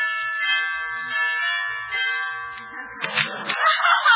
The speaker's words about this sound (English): Yeah, I'll ring the bell.